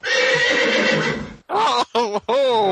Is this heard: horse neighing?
yes